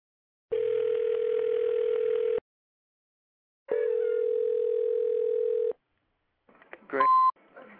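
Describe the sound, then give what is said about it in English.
Two long, steady telephone ringback tones, each about two seconds with a pause between, followed by a burst of clicks and a short high beep as the line picks up. It is an international call from the Netherlands ringing through to a radio show. “And international call. Hail, all the way from the Netherlands.”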